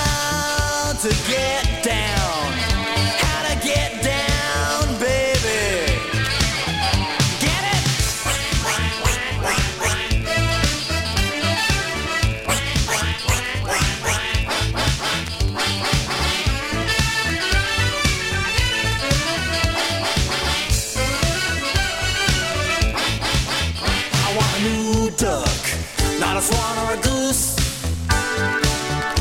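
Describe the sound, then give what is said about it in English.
Duck-like quacks sound throughout a loud, busy pop song, blending with the full band's steady beat and bright instruments rather than standing out on their own. “I want a new duck, not a quail or an owl.”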